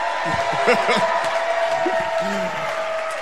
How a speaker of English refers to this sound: It's kind of a weird thing to cheer, but thank you, everybody.